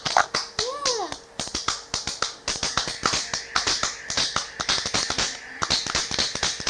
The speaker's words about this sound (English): Clapping hands. Clapping hands. You are clapping your hands.